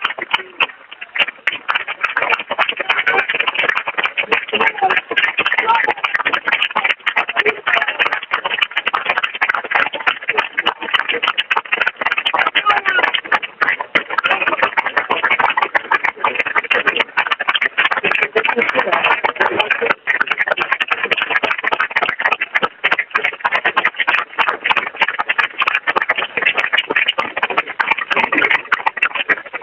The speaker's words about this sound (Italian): C'è tutta la piazza che applaude e saluta Bolognesi dopo tantissimi anni presidente, c'è Lambertini, il successore sul palco con lui. Una piazza pienissima, penso che sentite gli applausi.